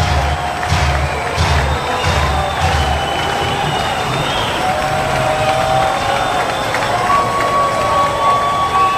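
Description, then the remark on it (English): Steady roar of a baseball stadium crowd at a Columbus Clippers game, loud and sustained, with scattered cheers and a few rhythmic low thumps early on, plus whistling tones rising above the din, as the pitcher works a 1-2 count. “Crowd here making some noise now.”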